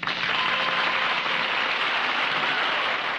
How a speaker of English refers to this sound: Lucy came out. She was scared to death. A big smile on her face. The crowd just roared with approval. They wouldn't stop their applause.